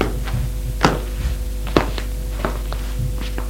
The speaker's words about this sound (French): La domestique ferme la porte.